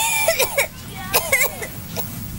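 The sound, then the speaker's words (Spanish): A young child coughs several times in short bursts, some coughs doubled, with brief pauses between them and a faint background hum. “Por más historias sin tos.”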